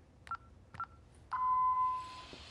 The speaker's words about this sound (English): Inside, she taps at a house alarm console.